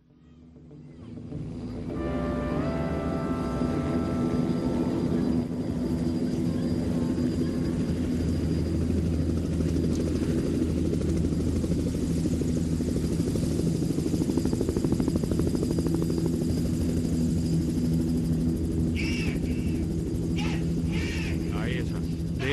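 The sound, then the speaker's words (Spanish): A steady, loud helicopter rotor drone fades in and holds throughout, with low throbbing chopping and a few brief high chirps near the end, layered into a music intro. “Ocurre que esta canción comienza, es una de las pocas canciones que comienza y que tiene incluido en el sonido de la canción, el sonido de un helicóptero.”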